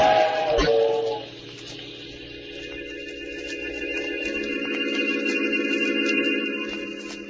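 A loud steam whistle shrieks with sustained, layered tones over the heavy rushing rumble and hiss of a train roaring past on the tracks, with a sharp clank near the start.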